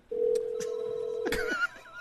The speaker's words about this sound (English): Oh, let's mute that. I could have sworn I heard a phone. That's weird.